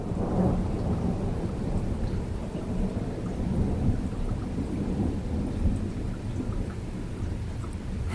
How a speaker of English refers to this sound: Wow. That was lightning and thunder in Ona.